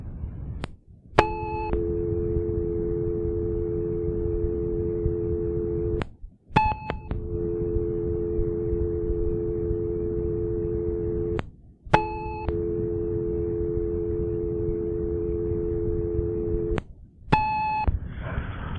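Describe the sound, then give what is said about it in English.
A short electronic answering-machine beep followed by a steady dial tone, repeating four times in a regular cycle, each hang-up marked by a brief click and a new beep, from a recorded message tape where several callers hung up before leaving a message. “You hear the beep and a dial tone.”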